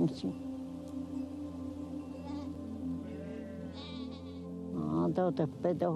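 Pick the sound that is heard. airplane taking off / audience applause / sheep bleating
sheep bleating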